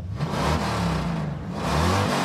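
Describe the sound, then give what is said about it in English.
A motorcycle engine revs up loudly in Ha Ha Tonka State Park, Missouri, its throaty roar rising and falling in pitch over a couple of seconds with no talking. “We taped a roaring debate between a motorcycle and an RV in Haha Tonka State Park, Missouri.”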